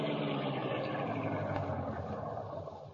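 vehicle, car engine idling

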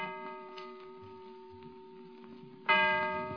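household object, clock striking the hour

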